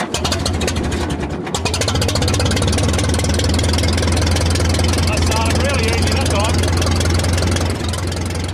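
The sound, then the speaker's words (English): An old tractor engine idles loudly, a steady low chugging rumble that runs unbroken from start to finish, with faint voices underneath. “It begins with a tractor and a cup of tea.”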